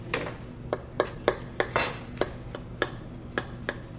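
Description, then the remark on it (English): A utensil cuts into a crusty baked dish, giving a steady series of sharp, crisp crunches with a soft squish beneath and a brief high metallic scrape partway through. No one speaks. “It's got a little bit of that good squish. A little squish, and you can still hear like a little bit of crunch.”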